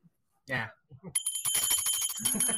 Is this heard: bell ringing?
yes